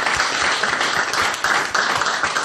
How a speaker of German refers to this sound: Also erstmal einen großen Applaus an dich für dieses Bild.